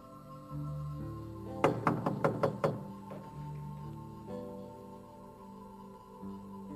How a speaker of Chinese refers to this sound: 彼得不停地敲门。